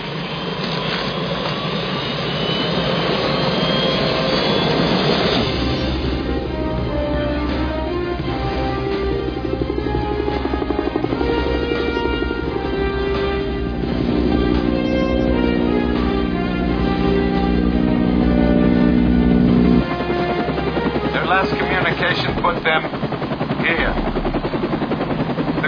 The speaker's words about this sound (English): Get out of my chopper. No. My chopper.